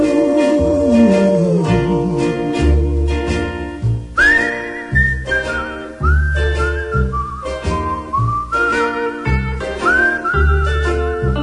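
A bright, clear whistled melody rises and glides over a steady, bouncy musical accompaniment, the tune carrying up front with sliding notes and a lilting rhythm, with no talking.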